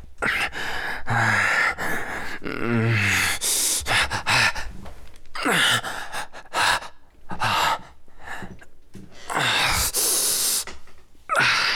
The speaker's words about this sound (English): You see me here panting, yeah?